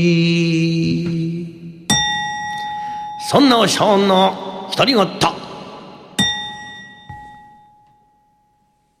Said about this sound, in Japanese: あの鐘を鳴らしてください。